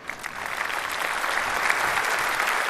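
Steady audience applause for a contestant after a total score of 31 points, a dense, crackling wash of many hands clapping at an even, sustained loudness with no voices standing out.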